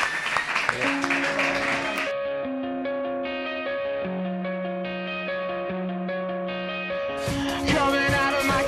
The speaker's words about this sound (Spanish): Un aplauso para ellos. ¡Ole!